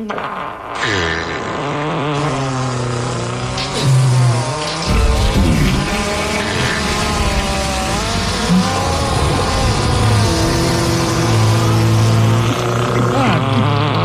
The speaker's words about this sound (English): Obviously, this calls for a fart montage.